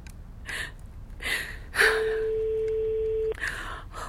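A phone ringing tone on a call to a mobile phone sounds once as a steady, mid-pitched beep lasting about a second and a half, with breathy gasps and sighs before and after it.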